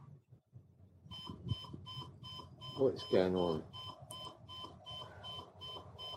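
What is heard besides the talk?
alarm clock going off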